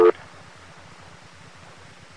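A brief sharp telephone tone at the very start gives way to a steady, low pulsing hum and hiss on the phone line at WCCO Radio in St. Paul-Minneapolis, while switching phones to reach Senator Duenberger calling from Washington, with no one talking.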